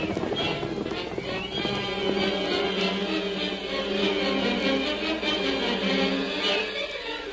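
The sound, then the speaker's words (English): Galloping horses' hooves pound in a steady, dense rhythm as riders urge their horses on in pursuit of another horse, with whinnying mixed in, a busy, loud scene with a broad rumble underneath and no clear talking. “Get your horses. And don't give me an argument. Every last hombre here is riding.”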